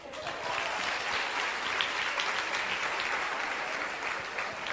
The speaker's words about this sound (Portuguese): Olha ele lá, aplauda.